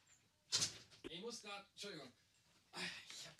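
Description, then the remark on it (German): A door in Kassel, Germany, slides and shuts with a short, solid thud, followed by a person talking, with another brief scraping rush of the door moving near the end. “Ich habe gerade gemerkt, dass ich noch die Tür auf hatte und man hatte von draußen alles rein.”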